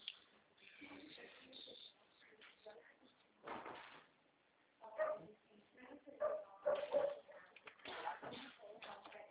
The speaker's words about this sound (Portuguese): Tem cachorro aí próximo? Tem um lá na frente. Tem uns cachorrinhos latindo aí.